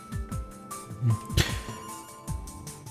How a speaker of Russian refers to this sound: У нас есть телефонный звонок.